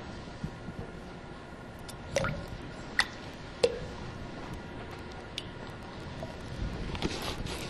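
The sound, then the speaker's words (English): Thick liquid latex pours into a container of water, giving soft wet squishes and a few distinct drips over a quiet hiss of room noise. No one speaks. “Okay, so we're going to open it up here, and we'll pour some in there.”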